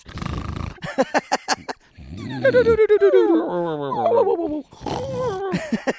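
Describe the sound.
A person imitates a drunk, whimpering dog that has had wine: a few rough, choppy huffs, then long wobbly whines sliding up and down in pitch, fairly loud, ending in a slurred whimper.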